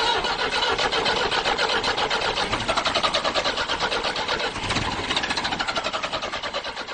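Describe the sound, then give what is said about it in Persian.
An old Paykan car engine cranks over and over with a rapid, rhythmic churning from the starter, straining for several seconds before catching and sputtering into a rough idle, loud. “ماشینی که اگه صبح تو سرما استارت میزدیم باید یه پا میذاشتیم رو زمین و یه پا رو کلاچ، بعد با قسم و قرآن استارت میزدیم.”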